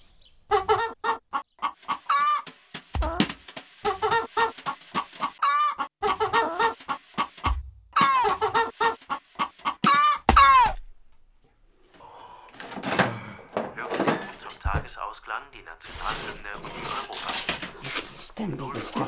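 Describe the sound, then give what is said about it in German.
A hen clucks steadily, a quick run of short, bright clucks for about ten seconds, followed by quieter rustling and clattering noises. “Gegen so eine tüchtige Henne?”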